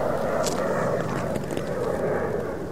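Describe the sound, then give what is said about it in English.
A steady, loud roar of a private jet passing overhead in Woody Creek, a broad rumbling engine drone holding constant throughout with a faint hiss above it and no talking. “Private jets disrupt the peace. There's another one.”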